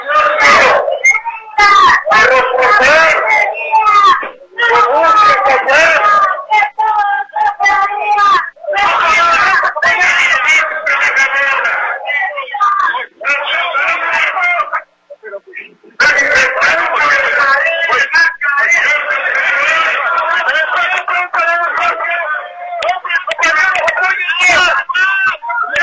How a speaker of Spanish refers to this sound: Parte de lo que iban diciendo, gritando durante su recorrido, repito, rumbo al Palacio Legislativo de San Lázaro, básicamente pues las mismas demandas que han tenido durante años.